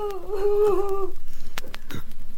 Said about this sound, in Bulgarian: Какво чувам? Не плаче ли наследникът Тути? Защо плаче наследникът Тути? Кой разплака наследникът Тути?